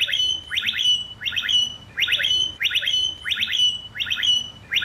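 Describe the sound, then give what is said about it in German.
A blackbird in Kiel, Germany, repeats a shrill, electronic-sounding phrase imitating the alarm sound of Bolt e-scooters, about seven bursts in a steady rhythm, clear over a faint low background hum. “Diese schrille, sich wiederholende Tonfolge hört sich tatsächlich eins zu eins wie das Alarmgeräusch der E-Scooter des Anbieters Bolt an.”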